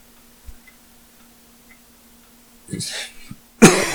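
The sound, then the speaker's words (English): A person coughs twice, a rougher first cough followed by a louder, harsher burst, against a quiet, faintly humming background. “That's me coughing all over you guys.”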